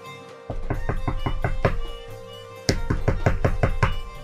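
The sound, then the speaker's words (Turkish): Two bursts of rapid, forceful knocking on a house door by a strong, able-bodied man knocking insistently, each burst about half a dozen sharp raps, separated by a short pause, with a faint steady hum in the background. “Gücü kuvveti yerinde bir adam ısrarla kapıyı çalar.”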